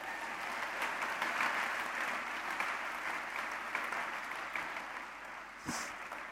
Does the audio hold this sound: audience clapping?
yes